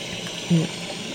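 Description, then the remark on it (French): A steady, continuous rush of falling water from waterfalls in an underground cave fills the space, with a brief low voice-like murmur rising over it partway through. “Voilà. Des cascades.”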